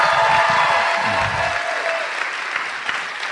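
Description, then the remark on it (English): An audience breaks into loud, sustained applause given in honour of Jesus Christ, a dense wash of many hands clapping at once with a few cheers rising over it before it gradually eases off. “So let's give him the greatest hand clap you can give him today.”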